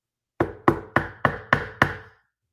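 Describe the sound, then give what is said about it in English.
A man knocks on wood six times in a steady rhythm, each a sharp, hollow rap with a short decay, fairly loud with no talking. “Oh, better, yeah, he knocked on wood, baby.”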